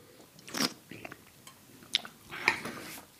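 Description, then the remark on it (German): Someone slurps wine while tasting it, drawing air through it in a few short, hissy bursts with brief quiet gaps between them, plus faint mouth and glass noises. “Du schlürfst.”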